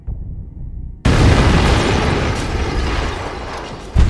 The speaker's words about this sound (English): It is this heavy table that saves Hitler. It deflects the blast that would eventually kill 4 men and wound 20 others.